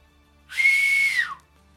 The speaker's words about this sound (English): With those words of wisdom, up from the helm, you hear the whistle again.